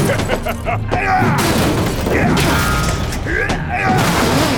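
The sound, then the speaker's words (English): A heavy hammer smashes into one of many metal consoles lining a wall, loud, with a dense burst of clanging, crunching metal and rattling debris that carries on for several seconds. “He dashed back, and the hammer crashed into one of the many consoles lining the wall.”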